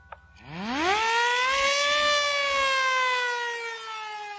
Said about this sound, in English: The next morning, just as the ferry building siren was announcing the 8 o'clock to downtown San Francisco, I got Rembrandt on the phone.